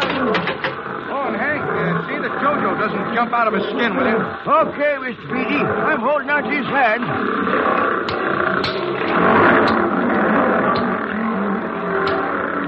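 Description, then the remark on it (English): Several young tigers in an animal act, which cannot be made to get up on a pedestal, snarl and growl loudly in overlapping, rasping bursts that keep up for the whole stretch, with a busy, noisy background. “See, Hank, even Clyde can't get those snarling young tigers up on that pedestal.”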